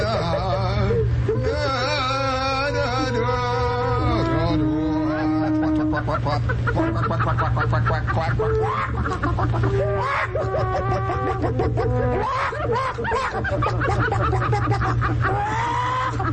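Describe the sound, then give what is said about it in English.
A man's voice imitates a chicken, with rapid, warbling clucks and squawks in a continuous run, fairly loud, over a steady low hum. “You didn't think I could imitate chickens, did you?”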